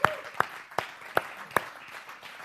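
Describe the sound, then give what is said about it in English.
Five sharp hand claps in a steady, fairly quick rhythm, each a crisp, bright smack, then quiet for the last second. No one speaks. “Yeah, I'll clap with you on that one.”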